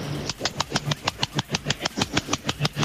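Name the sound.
voice imitating a seal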